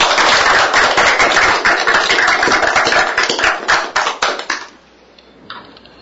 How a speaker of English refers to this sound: At this time, a round of applause and welcome our new regent.